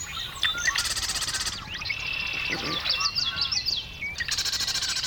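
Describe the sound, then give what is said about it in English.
A dense marsh bird chorus of marsh wren, common yellowthroat, red-winged blackbird and sora: buzzy trills, rapid chattering rattles and clear whistled calls overlap continuously, with bursts of high, rapid trilling at the start and end. “Now, with the full orchestra.”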